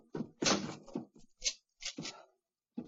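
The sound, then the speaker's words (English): A door is shut with a solid thud, followed by a few short metallic clicks and rattles as it is locked on Sherlock Holmes's instruction, then a final brief knock after a pause. “Lock the door behind you.”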